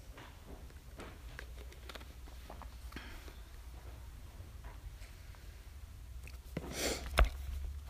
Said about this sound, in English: I'll let you think about that while I clear my throat.